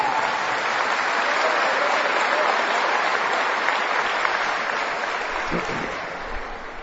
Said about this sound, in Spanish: ¡Uy, pudieron! Dense un aplauso, qué maravilla.